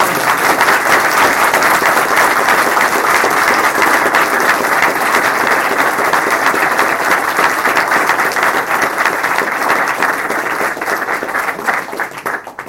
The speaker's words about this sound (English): Take a round of applause. Thank you.